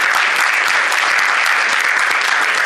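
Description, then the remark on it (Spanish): An audience applauds steadily, a dense, loud wash of many hands clapping at once with no pauses, filling the whole stretch without any voices standing out. “Y eso, entonces también pido aplauso para lo que se vuelve realmente el uso de independencia.”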